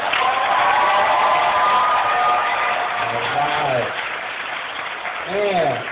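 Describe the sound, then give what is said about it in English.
A crowd at an event applauds and cheers steadily for several seconds for one of the organization's top producing directors, a dense wash of clapping with whoops and shouted voices rising over it, swelling briefly again near the end. “So anybody deserves a round of applause.”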